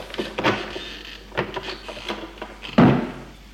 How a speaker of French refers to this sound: Regarde autour de lui, prend une clé de sa poche, de son blouson, tourne doucement la clé. Il entend des clics. Pousse, la porte s'ouvre.